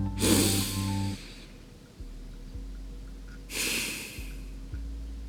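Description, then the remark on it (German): A deep breath drawn in and then slowly let out, two airy rushes about three seconds apart over a low, steady musical drone. “atmet tief.”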